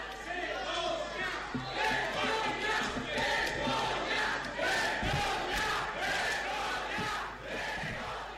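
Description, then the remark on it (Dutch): A courtroom audience of angry voices chants together in a loud, rhythmic protest after a verdict, repeating the shouted Italian word "vergogna" (shame) over and over. “Vergogna, schande, scandeert het publiek in de rechtszaal.”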